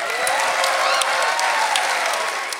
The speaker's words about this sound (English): We're about halfway done with the show, so let's get a round of applause as we get to our break.